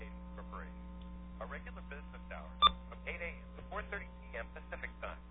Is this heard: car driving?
no